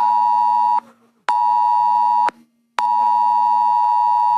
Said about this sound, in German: Millionen von Handys haben diesen Warnton abgespielt. Pünktlich um 11 Uhr ist in ganz Deutschland ein Probealarm losgegangen.